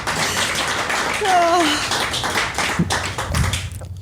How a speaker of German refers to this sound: Und wir haben jetzt einen Deal. Und dafür nochmal ganz groß Applaus.